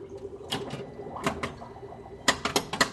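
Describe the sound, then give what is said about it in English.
A steady low electric buzz hums beneath a series of sharp mechanical clacks and rattles, with a tight cluster of loud clicks near the end, from a steampunk pinball machine being played after coins are dropped in, shown in a steampunk show at a museum. “You hear the buzz of electricity, the drip of amino acids.”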